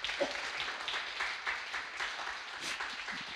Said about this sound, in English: Come on, yeah, give him a hand clap.